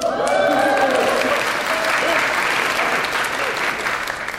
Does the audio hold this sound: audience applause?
yes